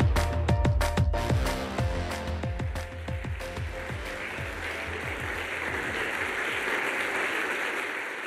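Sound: audience applause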